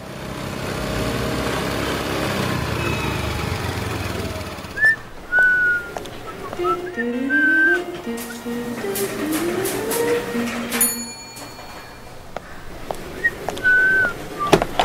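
Someone whistles a tuneful melody in clear sustained notes in an office, rising and falling over a busy background hum, with the whistled phrases coming in bursts across the second half.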